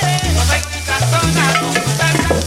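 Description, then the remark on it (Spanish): Food sizzles and crackles steadily in hot oil as an egg arepa fries in a pan, a dense, continuous hiss with a low, wavering tone running beneath it and no talking. “Y ojo que se quema la arepa de huevo, ¿eh?”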